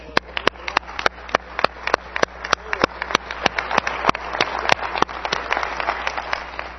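One person claps steadily in a brisk, even rhythm, about twenty sharp claps in a row, with faint murmuring voices underneath, clapping for people who did a lot of hard work on a painting for a cover.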